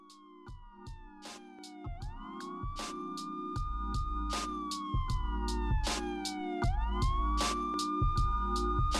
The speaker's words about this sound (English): Now, here come the sirens.